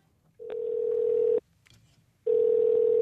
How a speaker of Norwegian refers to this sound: Jeg begynner å bli så bekymret at jeg ringer et telefonnummer som jeg finner på nettet. Dette er det som skjer.